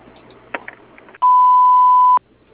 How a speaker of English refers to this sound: If you would like to leave us a message, please do so after the beep.